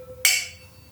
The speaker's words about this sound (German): Lass uns erstmal anstoßen, einen Schluck nehmen und dann erzählen wir erstmal, was wir trinken.